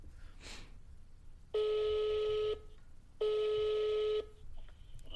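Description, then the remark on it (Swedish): Two long, steady ringback tones of about a second each, separated by a pause, heard over a phone line while calling a mother, with faint background noise and no talking. “Jag ringer henne.”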